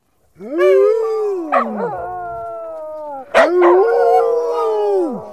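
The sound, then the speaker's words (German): Village dogs howl at night in long, wavering tones, two drawn-out howls rising and falling with overlapping voices, loud, with no talking. “Oder vielleicht doch nicht so sehr, denn in der vergangenen Nacht hatten die Dorfhunde ein Jaulkonzert veranstaltet und niemand hatte ein Auge zugetan.”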